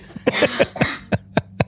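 A series of short, harsh coughing bursts, first in a rough cluster and then three sharp separate coughs, fairly loud with no talking.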